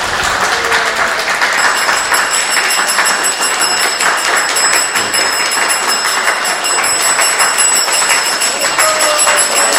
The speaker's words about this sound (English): We need to really give a big hand. Applause. Please.